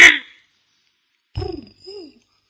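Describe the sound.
A person imitates a dove's cooing with two short, low, breathy hoots in quick succession, following a brief burst of noise and a moment of silence.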